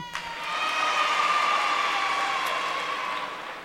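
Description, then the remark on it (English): An audience breaks into steady applause mixed with cheers and whoops, holding loud for about three seconds before tapering off. No one speaks over it. “This is probably a sure way to get applause, but I was born in Brooklyn.”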